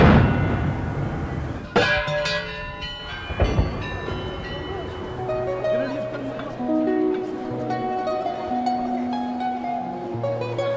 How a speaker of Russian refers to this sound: О начале и конце наводнения петербуржцев, в отличие от Венеции, оповещал выстрел пушки с Нарышкинского бастиона Петропавловской крепости.